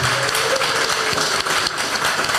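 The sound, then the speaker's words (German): An audience applauds the panelists of a panel discussion steadily for a couple of seconds, a dense wash of many hands clapping at once, loud, with no voices over it. “Und einen queeren Applaus”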